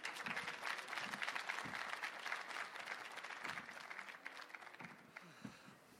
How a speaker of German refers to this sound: Begrüßt mit einem ganz großen Applaus.